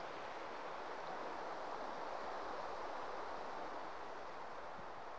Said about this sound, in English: every drop of water in this flowing, meandering course of water was sentient. I'm sure it would tell brilliant stories of the landscapes that it passes through on its way towards the North Sea.